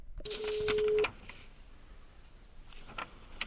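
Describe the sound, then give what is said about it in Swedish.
A telephone call placed by Granskning Sverige to Bruno Reinfeldt goes through: a loud, steady electronic tone sounds for under a second, then the line falls to a faint hiss with a few quiet clicks, and no one speaks. “Granskning Sverige ringer till Bruno Reinfeldt igen.”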